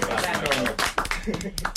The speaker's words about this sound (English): Come on, you have to clap.